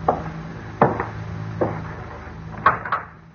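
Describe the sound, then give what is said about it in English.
Irregular knocks on a wooden door, about six sharp raps in loose pairs and singles, over a steady low hum with no voices. “Somebody at the door.”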